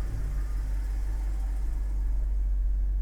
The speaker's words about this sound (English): I'm going to just back out of the garage here.